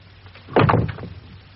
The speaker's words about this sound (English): You may leave us. And please close the door.